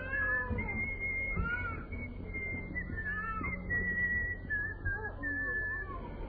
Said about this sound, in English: You know, just keep whistling away. Now, come on. Keep whistling,